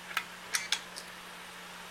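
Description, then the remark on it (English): A failing SATA hard drive, just powered up on a workbench, clicks: five sharp, irregularly spaced ticks over a low, steady motor hum, fairly quiet, with no voices. “It's a SATA hard drive. And let's see. He powers it up. Okay. Yep. And it's obviously clicking.”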